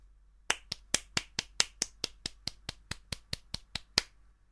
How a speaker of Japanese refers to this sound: いつもの私さんの溢れんばかりの喜びが伝わる素敵なお手紙でしたね。皆さん、盛大な拍手をお願いします。